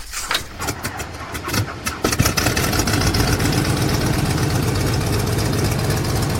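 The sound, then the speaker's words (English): The propeller engine of the Spirit of St. Louis, its propeller spun by hand by a mechanic at a hangar, coughs and sputters through a few seconds of uneven bursts, then catches and settles into a loud, steady, rumbling drone that continues to the end. “À mesure qu'il prend la vitesse, le moteur de l'avion se réveille et se met à gronder.”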